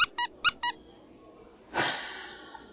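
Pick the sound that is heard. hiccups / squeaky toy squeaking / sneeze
squeaky toy squeaking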